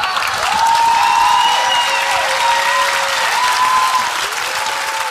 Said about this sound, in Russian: Честно говоря, я не очень понял, чему сейчас аплодировал зал. Я действительно... Потому что если зал аплодировал Кортневу, тогда я согласен.